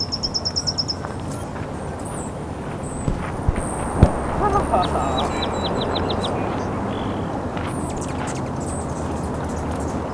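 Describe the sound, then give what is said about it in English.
Short runs of thin, high-pitched chip notes from an Allen's hummingbird, believed to be the territorial male, rapid and evenly spaced, come in bursts over a steady rushing background noise. Recorded May 7, 2009, with two Allen's hummingbirds present. “While I was standing here, two Allens Hummingbirds... I believe that's the territorial mail.”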